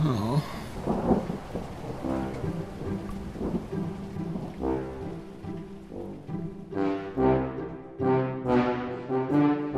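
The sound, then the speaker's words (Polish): A thunderstorm rumbles with deep rolling thunder and a steady wash of rain, while sustained, swelling musical tones run underneath throughout. “Jakaż to okropna burza.”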